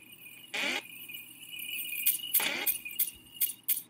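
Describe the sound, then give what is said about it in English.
Bright, jingly video game coin pickup sounds ring out about half a dozen times in quick, uneven succession, clear over a steady electronic hum, with no talking. “Ooh, coins!”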